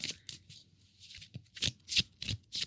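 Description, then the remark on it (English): Crisp riffling of a deck of cardstock playing cards with a rainbow design on the back being shuffled, a series of quick papery bursts with rapid flutter, no voices. “And see, they're nice cardstock, too, so they shuffle well.”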